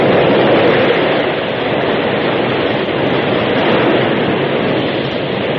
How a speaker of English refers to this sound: the flood rushed by. Hungry waves broke at the very feet of the horses.